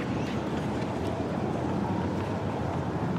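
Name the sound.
aeroplane flying overhead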